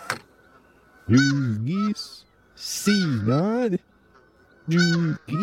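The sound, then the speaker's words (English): A Canada goose call played in reverse: three loud, drawn-out, nasal honks with bending pitch, spaced by short pauses, clear over a faint steady background tone. “If we play that backwards,”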